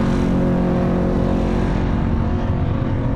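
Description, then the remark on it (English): Loud, steady roar of car engines as cars drive up a road, with a deep humming drone and rumbling that holds throughout without a break. No voices are heard. “You got two of them drove by with earmuffs on their phone as they're driving.”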